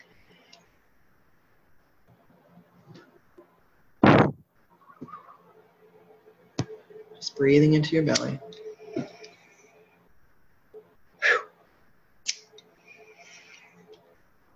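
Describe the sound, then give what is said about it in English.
A few short, breathy puffs of tobacco smoke blown through a camera during a tobacco blessing, fairly loud, with one longer rushing exhale in the middle, set between quiet, calm speech. “As I blow this smoke through the camera and into the crown of your head.”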